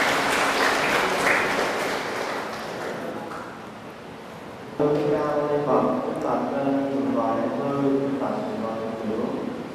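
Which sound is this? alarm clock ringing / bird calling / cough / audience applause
audience applause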